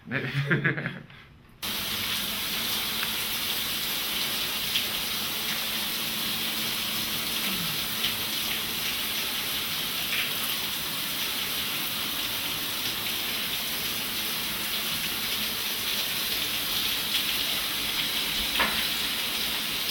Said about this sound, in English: Okay, so now go ahead and go take a shower.